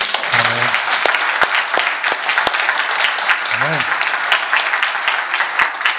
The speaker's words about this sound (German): Lass uns mal für die Zuschauer klatschen, okay?